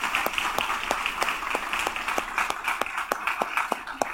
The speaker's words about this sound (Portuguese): Olha, nós vamos receber essa turma com uma salva de palmas.